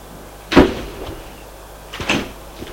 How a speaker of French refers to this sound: La porte s'ouvre.